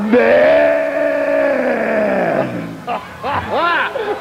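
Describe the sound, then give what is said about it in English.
A man's voice imitates the bellow of cattle being branded with a hot iron: one long, loud, strained moo for about two seconds, sliding down in pitch, followed by a few shorter wavering grunts and cries. “What do they sound like when you brand them, man? When you put that hot fire on them?”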